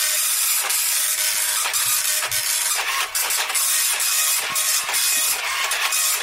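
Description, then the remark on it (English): A printer printing out a page in another room, with a steady bright whirring hiss broken by irregular mechanical clicks and soft thumps. It sounds fairly loud, with no voices. “Just printing it off, James. The score now. Going through, the printer's in the other room though, which is why you can hear it really clearly.”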